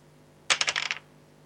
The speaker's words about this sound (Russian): Далее, выносливость. Тоже кубик. Выносливость — брось 2 кубика и прибавь 12.